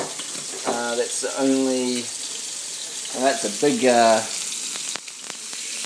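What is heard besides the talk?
meat sizzling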